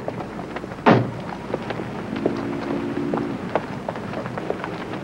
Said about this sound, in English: And then we do the door opening. That's literally just the door. And all those things together would create the Foley, as we call it.